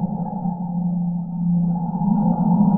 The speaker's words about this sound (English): And is Whale 52 the lower bass line that you hear? Is that? Yes. Whale 52 is the bass. It's the hum throughout the piece.